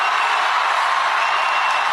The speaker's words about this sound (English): All emotion. Listen to the crowd cheering.